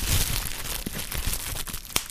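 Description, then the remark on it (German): Crinkling plastic wrapping foil from an unboxing rustles and crackles steadily for about two seconds, a dense, hissy texture dotted with sharper pops, with no voices. “Hier, kennt ihr das? Nee. Knisterfolie.”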